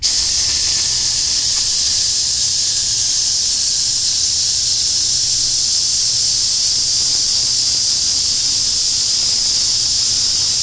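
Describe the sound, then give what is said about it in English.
A person makes a long, steady hissing sound with their mouth over a radio transmission as a bandwidth test, holding the bright airy noise evenly for about ten seconds without a break. “I'll make a sustained hiss.”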